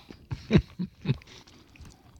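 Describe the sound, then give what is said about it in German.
Crunchy chewing of a wafer bar topped with chocolate-coated peanuts, with four or five loud, crisp crunches in the first second, then quieter, softer mouth sounds trailing off. No one speaks. “Man hat gut was zu kauen.”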